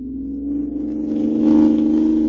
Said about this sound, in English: Hoo-wee! Looky at us go! Leaving it behind like it was standing still. This car's got an engine in it, all right.